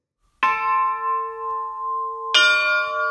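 church bell ringing

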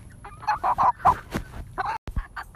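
chickens clucking

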